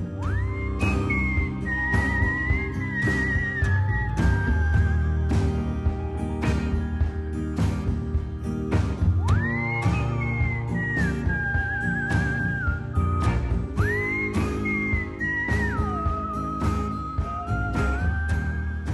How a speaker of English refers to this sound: We have a little piece of your whistling on a track….